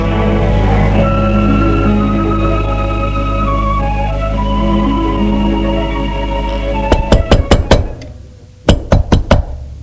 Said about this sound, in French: On a frappé à la porte.